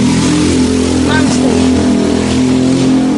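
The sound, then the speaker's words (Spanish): A motorcycle passes on one wheel, its rider without a helmet; the engine drones loudly and steadily throughout, its pitch shifting slightly as it revs, with a brief higher whine near the middle and background voices mixed in. “La moto de vuelta para que todo.”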